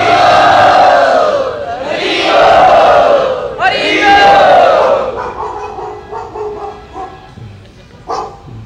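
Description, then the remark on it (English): A dog barks loudly in three long, drawn-out, almost howling cries, followed by a few softer, shorter yelps over a murmuring crowd in the background. “Dog is welcoming you.”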